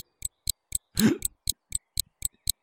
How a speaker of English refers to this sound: Do you hear that ticking, Juno? Lined all in a row, they seem like they'll never end, don't they?